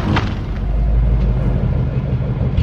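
A car's deep, steady engine and road rumble fills the scene loudly, with a brief thump near the start as the car pulls over to the side of the road at night.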